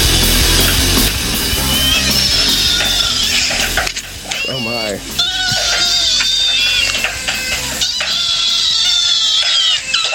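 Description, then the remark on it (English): A chorus of high-pitched kitten mews from a video playing on a phone, many overlapping cries rising and falling almost nonstop for the whole stretch, loud with a slightly tinny, crowded quality. “I was watching kitten videos on my phone.”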